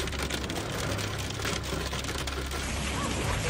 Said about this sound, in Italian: Cipro. Il 18 marzo, Nicosia, la capitale di Cipro, è stata colpita da un temporale con grandine grande come una noce.